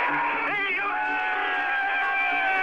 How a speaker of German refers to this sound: Nicht immer war der Jubel so spontan